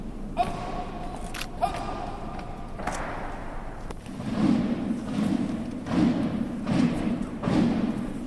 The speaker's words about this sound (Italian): Ordini militari, talloni che sbattono l'uno contro l'altro, tamburi che rullano, hanno fatto da sottofondo a giornate romane insolite